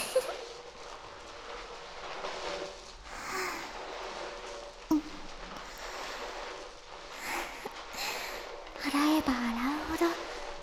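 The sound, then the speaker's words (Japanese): Continuous wet scrubbing and squishing of lathered hair as someone's hair is washed with shampoo, the lather building, a steady crackly rustle with a few louder bursts, while a soft, breathy voice murmurs quietly underneath. “量が増えていって、どんどん気持ちよくなっていくのはわかりますか？このまま、どんどん洗っていきますからね。”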